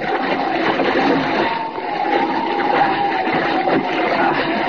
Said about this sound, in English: Oh, that wave capsized the rowboat.